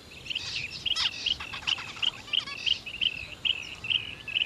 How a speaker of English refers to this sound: Oh, okay, I think I can see that one of the birds has a short, bright, red beak and black and white stripes on its tail. I know what it is, it's a zebra finch. I think there must be nearly 50 of them in this patch of bushes.